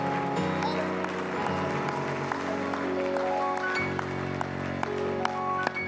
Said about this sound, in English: Why don't you give him one more hand clap of praise in this place before you're seated in the name of Jesus.